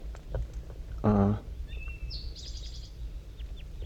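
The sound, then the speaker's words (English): Two wild birds in the top of a dead pine tree, in thick fog, call softly back and forth with the bird 5-3: one brief, low, buzzy call rings out, then a faint thin whistle and a quick run of high chirps follow over a steady low hum. “And they're calling pretty softly now, back and forth, 5-3 and the 2 wild ones.”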